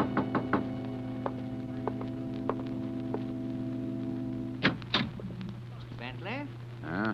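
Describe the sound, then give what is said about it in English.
Sharp, widely spaced knocks on a door sound over a steady low electrical hum, followed by a louder thump and then a brief voice near the end. “Two nights later, I was alone, and there was a knock on the door.”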